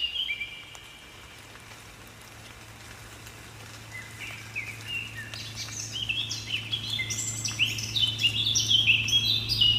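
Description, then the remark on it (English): A blackcap sings a rich, warbling run of varied high phrases that builds and grows louder after a quiet start, over a low steady hum and soft rain patter. “Yeah, just quickly share about kind of like so how do I mean by having this here, the black cap sound, and it's in the raining day.”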